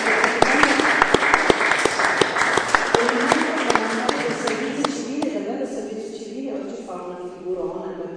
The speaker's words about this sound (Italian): un applauso particolare a lui.